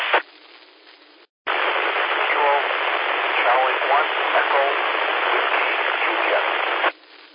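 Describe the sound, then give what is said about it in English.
A faint, garbled voice comes through a thick wash of radio static, band-limited and hissy, lasting several seconds after a brief cutout before ending abruptly. “I could hear a little bit of voice, but there was a lot of static on my signal.”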